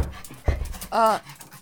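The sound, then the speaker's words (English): A dog pants in short, breathy bursts, followed by a brief tonal whine-like sound, all within under two seconds. “It's the dog.”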